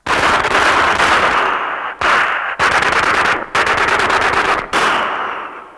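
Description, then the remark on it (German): Loud bursts of rapid machine gun fire aimed at Dickie Dick Dickens, just right of a small trailer, several sustained volleys of fast, rattling shots separated by brief pauses, with no voices. “Die Kugeln stoben aus dem Lauf des Maschinengewehrs, strebten ihrem Ziele zu.”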